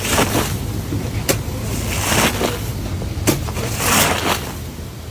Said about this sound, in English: But the video that went viral after that was the video that I was scraping the soapy water off the rug.